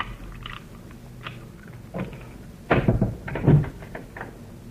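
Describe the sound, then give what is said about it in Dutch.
Clicks and metallic rattling as a key works in the lock of a locked door leading out to the street, followed by a louder clunk and scrape as the door swings open. No one speaks. “Die deur is op slot. We zitten in de val. Je moet ook maar luisteren. Hier is de sleutel.”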